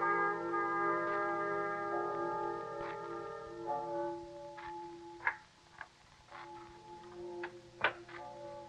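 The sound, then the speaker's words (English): Church bells toll slowly for the dead during a cholera outbreak in a town, with resonant overlapping tones that hang and fade between strikes. Several sharper clangs ring out near the end, with no voices. “Tell me, what do the bells ring for? The dead.”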